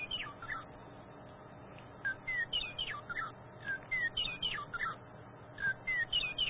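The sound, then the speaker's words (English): A bird chirps and sings in quick, repeated bursts of bright, high tweets, clear over a low background hum, with no one talking. “get the bird out for the introduction.”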